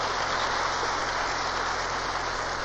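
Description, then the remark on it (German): Steady, dense applause from an audience welcoming a returning speaker back to Berlin, Germany, a continuous crackling wash of many hands clapping at an even level throughout, with no voices over it. “Wir geben einen Applaus und heißen herzlich willkommen in Deutschland.”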